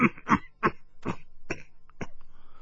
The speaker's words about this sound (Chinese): 话未说完，竟然不住的咳嗽起来。玉狐狸等四人对望了一眼，都看出他已经被海大少那一拳打得多少受了些内伤。